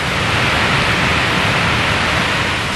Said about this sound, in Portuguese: Agora a gente vai entrar por trás da cachoeira. Tentar caminhar ali atrás da cortina d'água.